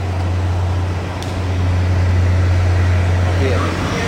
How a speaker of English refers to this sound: That's a little loud now with the buses,